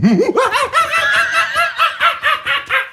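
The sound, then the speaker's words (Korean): A person imitates a monkey with a loud, quick, rhythmic run of about ten high, chattering hoots, opening with a lower swooping call. No talking accompanies it. “지금 막 떠오르는 것이 원숭이 소리.”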